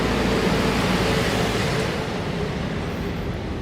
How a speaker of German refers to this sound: Wir müssen jetzt einmal kurz an der Seite gehen, weil die Müllabfuhr kommt. Genau. Und wir warten noch einen Augenblick, weil es ja einfach zu laut ist.